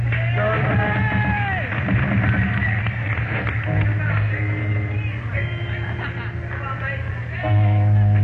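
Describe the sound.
A loud crowd cheers and applauds a performer for about eight seconds, with raised voices and whoops layered over a steady wash of noise, swelling slightly near the end.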